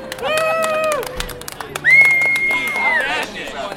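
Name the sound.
audience cheering and applause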